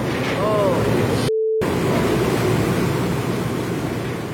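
Hurricane-force wind roars nonstop with heavy, rumbling buffeting, mixed with the churn of storm-driven waves. The loud, dense noise barely lets up, broken only by a split-second dropout.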